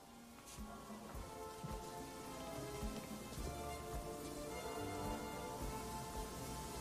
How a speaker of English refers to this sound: Rain. Real rain?